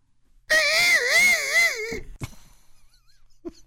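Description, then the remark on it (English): A loud, shrill owl screech rises and wavers for about a second and a half, then cuts off, leaving only a few faint, brief rustles and clicks. “The unexpected owl screeches truly make me flinch.”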